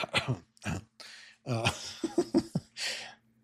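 A man coughs and clears his throat several times in quick, uneven bursts, fairly loud, with harsh breathy hacks and short voiced grunts between them and no talking.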